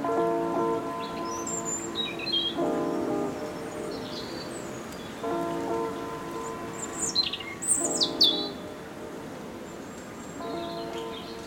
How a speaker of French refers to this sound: Est-ce le chant de l'oiseau qui vous rassure?